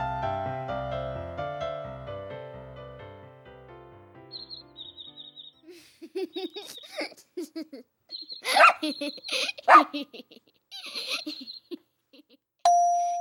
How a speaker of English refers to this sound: Can you tell what these puppies are thinking? A glad bark and a wagging tail mean, I'm happy.